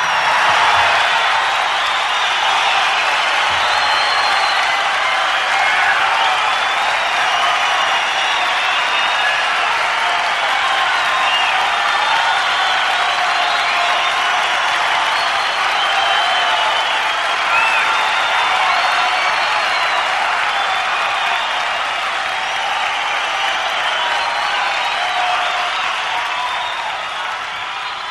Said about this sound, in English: The applause, and that's a bid for … to come back on, and they are coming back on. We're at the Santa Monica Civic, October 20th, 1972.